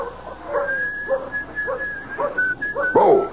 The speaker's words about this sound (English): As with Dan Bowles, whistling softly to himself while he hitches up the buckboard, enjoying the prospect of the trip to town as any lone cowboy would.